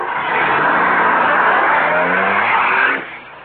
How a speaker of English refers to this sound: There's a car coming. They've got us in their headlights. It's the cops. Well, let's get out of here.